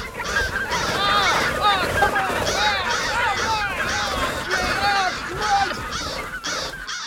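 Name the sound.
flock of birds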